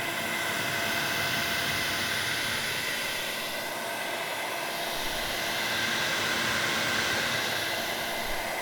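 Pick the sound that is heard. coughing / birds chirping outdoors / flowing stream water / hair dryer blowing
hair dryer blowing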